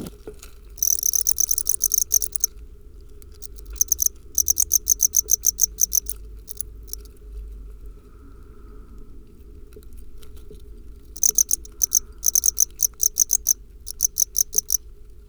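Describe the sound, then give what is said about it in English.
Crickets chirp in rapid, pulsing bursts that start and stop in clusters, bright, over a low steady outdoor rumble with no voices; a digital field recording. “Okay, here are some cricket sounds. First, the digital recording.”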